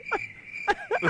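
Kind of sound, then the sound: insect, chorus of crickets chirping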